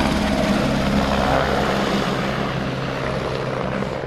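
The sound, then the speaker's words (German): A helicopter's loud, steady rotor and engine roar fills the air, easing off slightly toward the end as the helicopter flies away. No voices. “Der Heli geht wieder.”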